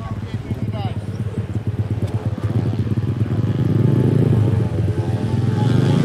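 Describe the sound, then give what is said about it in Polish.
A small motorcycle engine buzzes and revs, its pulsing drone rising into a steady, loud whine as it rides around a mini speedway track on Kresowa Street in Lublin, used for training beginner riders of Motor Lublin, with people talking faintly underneath. “Jesteśmy przy ulicy Kresowej, gdzie znajduje się tor mini żużlowy oraz mała traska motokrosowa dla początkujących adeptów Motoru Lublin.”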